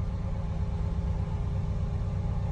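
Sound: cars passing by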